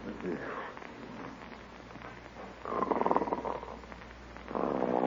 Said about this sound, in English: Oh, isn't that awful? Snoring already. Listen to that.